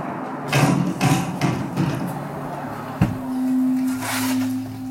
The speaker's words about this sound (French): Le dramaturge Jean-Claude Idée, qui aime bien mettre en scène des face-à-face entre personnages historiques, a même imaginé la Boétie revenant toquer à la porte de la tour de Montaigne, fort mécontent de voir son discours escamoté.